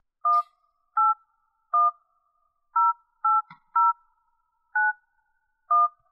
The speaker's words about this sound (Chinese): 然后现在让我们来拨通他的电话。